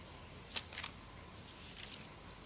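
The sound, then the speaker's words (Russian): Scattered papery rustles as people in a church audience turn pages to Luke chapter 5. A few brief crisp flicks are followed by softer, overlapping shuffling, fairly faint against a steady hiss. “Я прислушиваюсь, слышу ли я шелест страниц.”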